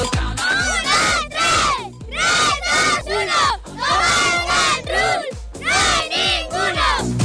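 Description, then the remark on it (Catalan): A youth football team, the Benjamí B of Can Rull Romolo Tronchoni, shouts a rhythmic team chant in unison at the Can Rull municipal sports zone during the Memorial Manuel Luque i Àlex Gallardo tournament, several loud, energetic bursts of voices with brief pauses between them. “Crits com aquest del Benjamí B, del Can Rull Romolo Tronchoni es van deixar sentir molt durant tot el cap de setmana.”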